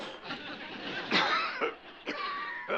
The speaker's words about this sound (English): You've been coughing an awful lot lately.